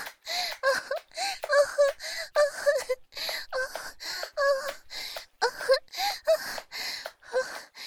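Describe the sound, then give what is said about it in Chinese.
A woman pants in quick, rhythmic breaths, each one breathy and partly voiced like a soft moan, fairly loud, continuing steadily for several seconds with no talking. “姐夫，是不是听到我的喘息声，就觉得自己很厉害呀？”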